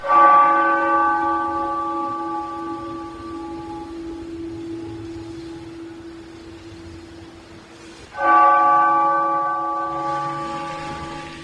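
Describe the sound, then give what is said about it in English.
A church bell in Newtown, Connecticut tolls twice in the morning, part of twenty-six bells tolled for those lost in the Sandy Hook Elementary School shootings one year earlier. Each loud strike rings out with a long, slowly fading hum, the second toll arriving about eight seconds after the first. No voices are heard. “Twenty-six bells tolled in Newtown, Connecticut this morning.”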